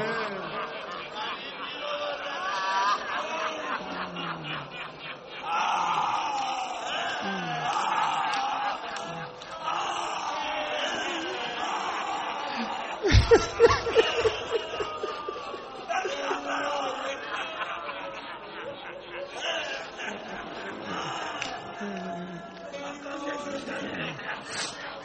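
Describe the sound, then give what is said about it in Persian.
A large crowd of mourners weeps and wails together for Aba Abdillah (Imam Husayn) in a dense, continuous wash of sobbing voices, with a brief louder burst of cries about halfway through. “خوش به حالتون که برای ابی عبدالله گریه میکن.”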